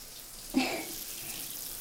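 Running hot water pours steadily after a sudden splashing onset, a hissing rinse washing soap foam off someone, continuing at an even level to the end.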